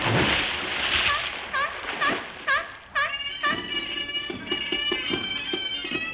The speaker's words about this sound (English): You imposter, that's a seal.